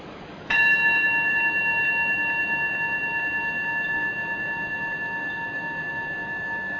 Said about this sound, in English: And we'll begin our meditation period by listening to the sound of the bell, receiving the sound of the bell.